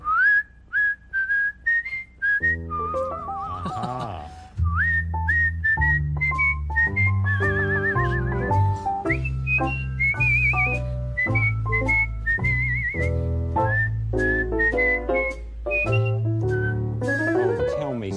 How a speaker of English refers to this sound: Do you have any improvisation whistles you could do for us? Maybe I could. Improvisation? Yes.